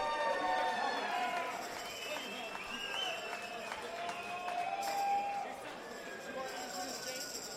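A concert crowd at the first Royal Family Ball applauds the keyboard player steadily with a dense wash of clapping, while cheers and whoops rise above it in bright wavering calls, the noise staying loud throughout before easing slightly at the end.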